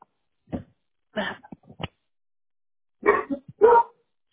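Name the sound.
dog barking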